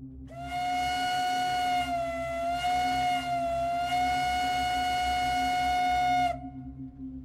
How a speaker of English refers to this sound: For instance, the following is the standard American train whistle from the 1840s and 50s.